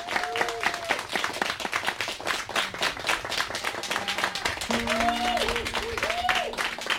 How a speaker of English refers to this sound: Round of applause for Annie and Anne, because this is amazing.